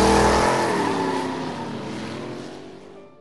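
A car engine revs up and accelerates away, its rising roar steadily fading over a few seconds, with no voices.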